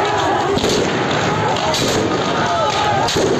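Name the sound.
gunshots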